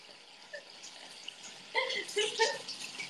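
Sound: water splashing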